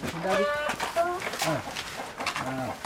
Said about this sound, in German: Jetzt ist ihm nur ein kleiner Hühnerstall geblieben, den er in einer freien Ecke bei einem Wassertank gebaut hat. Statt rund 150 Hühner leben hier gerade mal 6.